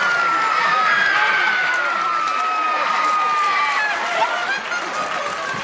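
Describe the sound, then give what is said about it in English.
A large stage-show audience rises to applaud in a steady, dense wash of clapping, with hurried running footsteps as two performers dripping in red paint wail, scream and run off stage, and excited voices mixed in throughout. “The audience rise to applaud.”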